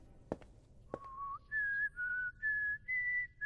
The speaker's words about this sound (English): Agent Red whistles into a security pad.